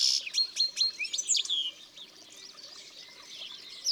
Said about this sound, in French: Les chardonnerets sont souvent en bande.